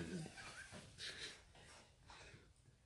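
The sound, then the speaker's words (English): A pipe being lit and drawn on, with two breathy, hissing inhales and faint background murmur in between. “So let's, can we fire that pipe up one more time?”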